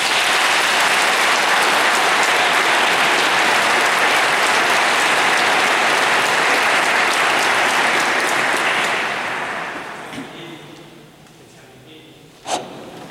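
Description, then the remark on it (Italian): An audience breaks into sustained, dense applause of good wishes after a blessing, holding steady for about nine seconds, then thinning out and fading into scattered claps and low murmuring, with one sharp sound near the end. “E un bel applauso di auguri.”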